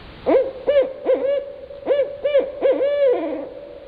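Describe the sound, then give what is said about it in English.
A barred owl calls a rhythmic run of about eight resonant hoots, clear and moderately loud, ending in a drawn-out, sliding final note. No one speaks. “We, just yesterday, I was hearing the hoo-hoo, who cooks for you?”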